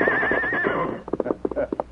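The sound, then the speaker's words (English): A horse, Silver, lets out a loud whinny with a wavering, high pitch, then snorts and breathes in short bursts as hooves shuffle. “Sounds like silver hungry like you and me.”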